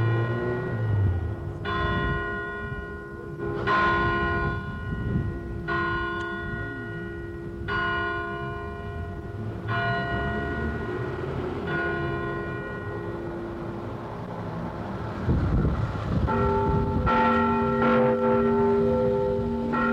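Church bells peal in a steady, unhurried rhythm, each resonant stroke ringing into the next, with another bell's tone joining toward the end. No one speaks.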